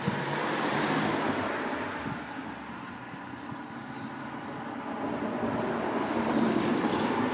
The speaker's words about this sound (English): Oh, it is a car. It's a car.